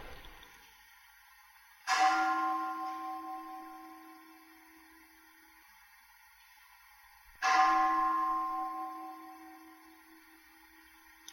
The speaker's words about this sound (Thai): รู้สึกไหมเสียงระฆังมากระทบใครเห็นจิตที่ไหวบ้างมีไหม